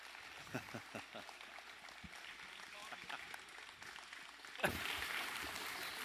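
An audience claps, starting with a few scattered, uneven claps that suddenly swell into a dense, steady burst of applause for the last second and a half.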